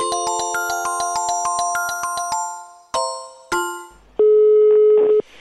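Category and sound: signal or alarm, telephone ringing tone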